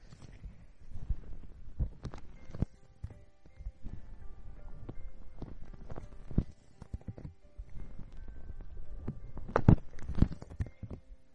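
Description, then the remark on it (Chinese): Muffled, booming thumps and soft rustling as two hands repeatedly cup and press over a microphone for ASMR ear covering, with irregular low throbs and brief crackly scrapes; no one speaks. “手机听听到捂你们的耳朵，现在换了两只手一起捂。”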